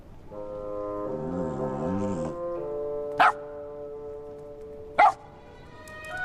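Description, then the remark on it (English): Two short, sharp dog barks sound about two seconds apart over a steady, droning whine-like tone that wavers early on, from a group of three dogs including Friday and a huge Great Dane; no one speaks. “Friday stands in front of the other two dogs with a ladle in his mouth.”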